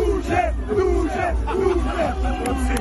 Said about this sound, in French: Voilà, vous avez bien entendu derrière les rires, c'est des Duce scandés par les supporters de la Lazio